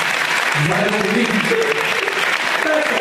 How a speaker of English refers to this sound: These signs are amazing, you guys. Round of applause for all your signs.